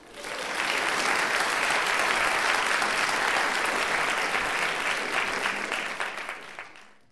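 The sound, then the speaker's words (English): A large audience at a television awards ceremony claps steadily in sustained, dense applause that holds at full volume for several seconds before tapering off, with no voices on top. “Let's give a big round of applause to all the shows that are being celebrated tonight.”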